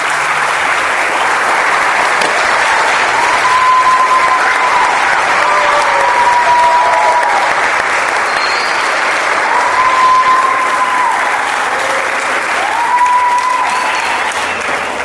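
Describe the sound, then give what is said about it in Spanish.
Steady, loud applause from an audience for a group of children who are about to perform fills the whole stretch, a dense wash of clapping hands with a few faint cheers or whistles rising briefly above it. “y quiero que le brinden un fuerte aplauso a todos estos niños que se han esforzado.”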